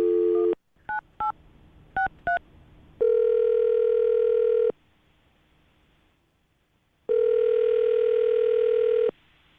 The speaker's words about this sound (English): Well, I'm going to dial the phone right now, so we can get her on the phone and get your second date update.